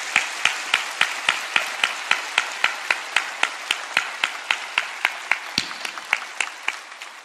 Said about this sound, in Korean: 그리고 지금 이 시간에는 새벽부터 더 일찍 일어나서 찬양으로, 주차로, 다음 세대의 인도로, 그리고 미디어로 수고해 주신 모든 분들께 격려의 박수 부탁드립니다.